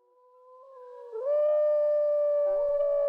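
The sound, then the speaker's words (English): A single long wolf howl rises smoothly from a low start into a sustained, loud, clear tone, holding steady with faint harmonics, heard alone without any talking. “Wolves are important animals in the traditions and stories of most Native American tribes.”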